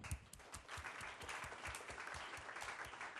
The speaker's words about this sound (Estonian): Nii et suur aplaus teile kõigile.